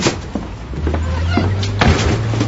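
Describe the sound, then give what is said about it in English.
A door swings shut with a firm thump, followed by a few smaller knocks over a steady low hum and quiet background noise. “Close the door.”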